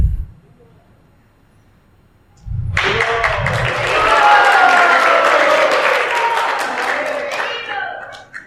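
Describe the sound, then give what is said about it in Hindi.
After a few seconds of near silence, male devotees at a gathering in Vrindavan Garden break into loud, sustained applause, a dense wash of many hands clapping that holds steady for several seconds before ending abruptly. “भक्त लोग ने अपनी ताली खुद ही बजा लिया, साधारण नहीं है, अच्छी बात है।”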